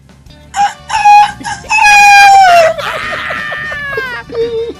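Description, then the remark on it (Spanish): A person loudly imitates a rooster crowing: a few short strained whoops, then a long drawn-out crow that slides downward in pitch, trailing off into rougher, fading calls. “Ahí tienen un audio. Oye, tienen la que audio. Igualito como un gallo.”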